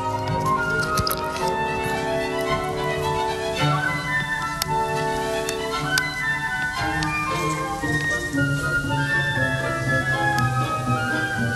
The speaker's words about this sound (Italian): E questo è un episodio differente, più lento, c'è scritto più tranquillo. Si amplia, prende respiro. E libera un solo di flauto.